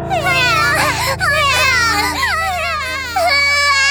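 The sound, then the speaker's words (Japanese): Loud, wavering high-pitched wails of three babies crying continuously, their overlapping voices rising and falling, with no pauses or other sounds. “赤ちゃんが3人も。”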